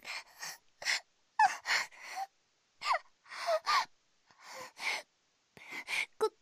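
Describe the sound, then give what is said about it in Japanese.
A coughing fit during an ASMR livestream: a dozen or so harsh, breathy bursts come in uneven clusters of two or three, with short pauses between. The coughs are moderately loud and there is no talking. “ごめんなさい。少し咳込んでしまって。”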